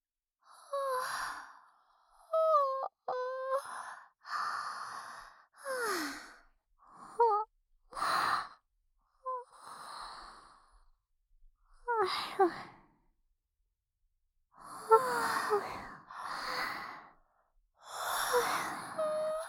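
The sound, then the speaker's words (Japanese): A long run of exaggerated, voiced yawns, around ten drawn-out breathy bursts with sliding pitch, some overlapping as two people yawn back and forth on purpose, separated by short pauses and no talking. “そかそか、じゃあいっぱいあくびしちゃおっと。”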